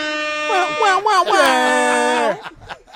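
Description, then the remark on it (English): A voice on a football talk show imitates a game-show buzzer in place of a real one, sliding through a few wavering pitches before holding a loud, steady, nasal drone for about a second, then cutting off into brief breathy noise. “Push the buzzer.”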